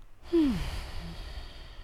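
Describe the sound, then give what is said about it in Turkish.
One deep breath taken with eyes closed, let out as an audible sigh with a brief falling voiced tone, followed by quiet room noise and no talking, in a studio. “Gözlerini kapattın, derin nefes alıyorsun.”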